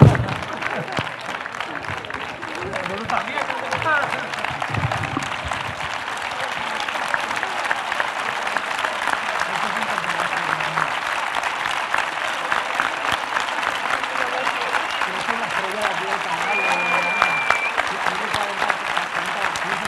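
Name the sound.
audience applauding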